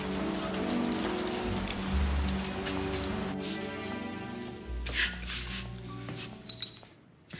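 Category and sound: nature, rain falling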